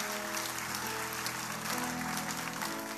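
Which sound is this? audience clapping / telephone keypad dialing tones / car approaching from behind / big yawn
audience clapping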